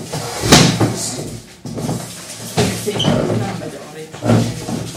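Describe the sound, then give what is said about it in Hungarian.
A chair is carried and set down, giving three broad wooden knocks and scrapes spread across a few seconds, with a faint background murmur. “Hozok neked egy széket.”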